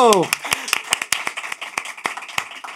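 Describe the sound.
A short burst of a voice gives way to a small group clapping, a dozen or so sharp, uneven claps ringing out close and fairly loud for a few seconds.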